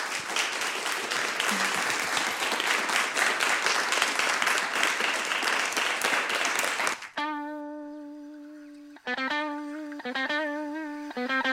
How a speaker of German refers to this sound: Ja, vielen, vielen Dank, dass ihr euch die Zeit genommen habt und uns hier Rede und Antwort standet auf alle schwierigen Fragen und ja, den Abend so bereichert habt. Vielleicht können wir nochmal applaudieren für alle.